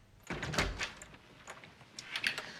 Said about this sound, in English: Jane reluctantly gets up and opens the door to her mother.